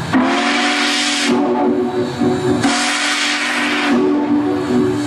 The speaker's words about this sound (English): The big boy train coming through town. This is a big deal. Train geeks everywhere. They descended on St. Louis to see this.